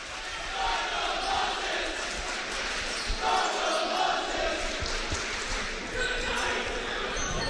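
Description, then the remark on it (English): A large student crowd roars and cheers at a basketball game with ten seconds left on the clock, a dense, loud, unbroken wall of shouting and yelling that holds steady for several seconds. “That's the student body saying, what a ball game.”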